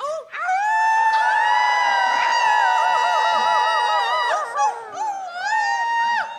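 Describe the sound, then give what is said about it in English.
A concert audience howls like wolves instead of clapping, many overlapping drawn-out voices rising and wavering in pitch for several seconds, loud, before trailing off and briefly swelling again. “If you get tired of clapping, it's really fulfilling to howl like a wolf instead.”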